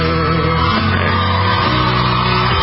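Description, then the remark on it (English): Children yelling and shrieking together in the background in a dense, continuous stream of raised voices, loud, filling the whole stretch without a pause. “This stuff, these screaming kids in the background, is so distracting.”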